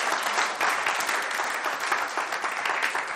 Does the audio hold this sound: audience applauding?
yes